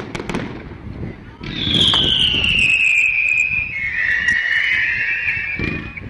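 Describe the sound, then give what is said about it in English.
Fireworks display of colored aerial shells launched from mortars, with rumbling bursts and crackle, then a long, loud high whistle that slowly falls in pitch over several seconds before more bursts at the end. “The crowd following its trail into the sky, holding its collective breath until the shells burst into luminous flowers.”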